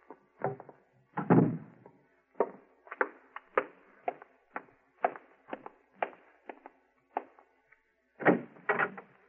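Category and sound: household object, door being closed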